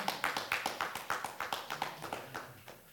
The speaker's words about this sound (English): Did y'all enjoy this teaching? Amen. Told you it was not going to be long. Clap your hands if you enjoyed this teaching.